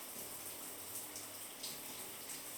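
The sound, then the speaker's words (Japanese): Shower water runs in a steady, dense hiss as it rinses lotion off a body, staying even throughout, with slight splashy fluctuations in the highs and no voices. “じゃあ体の方もシャワーの音とともに、ほら、ローションが流れていく。”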